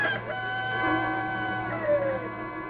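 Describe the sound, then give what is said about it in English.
A rooster crows once in a long, drawn-out call, fairly loud, its strained harmonic tone wavering before trailing off, over a low steady hum with no one speaking. “I tell thee, Peter, a cock will not crow this morning until you have denied me 3 times.”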